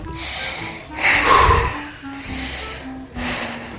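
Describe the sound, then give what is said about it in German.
Three deep, audible breaths drawn in and pushed out by a person who does this when very stressed, each a long airy rush, steady and unhurried, with no talking. “Ich schnauf dreimal durch und dann...”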